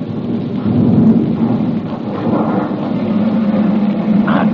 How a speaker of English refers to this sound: Three ambulances freighted with wounded growl unsteadily forward.